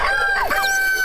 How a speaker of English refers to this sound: Where the rooster crows.